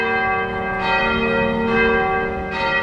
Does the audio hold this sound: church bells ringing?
yes